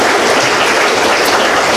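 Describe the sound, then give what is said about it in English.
An audience at a church service applauds for the Lord and Savior steadily, a dense wash of many hands clapping at an even, fairly loud level with no voices rising above it. “Let's give applause to our Lord and Savior.”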